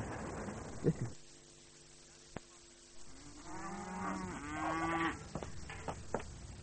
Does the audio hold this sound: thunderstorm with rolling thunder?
no